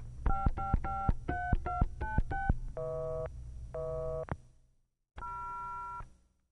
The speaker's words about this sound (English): Operator. Yes, operator. I'm trying to reach my sister-in-law. The line's busy and I'm a little worried about her. Could you break into the call, please?